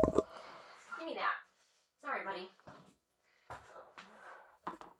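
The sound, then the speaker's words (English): A pug's squeaky dog toy squeaks in a run of short, high, whiny bursts at irregular intervals, some rising or falling in pitch, with brief gaps of silence between them. “And squeaky toys are so loud.”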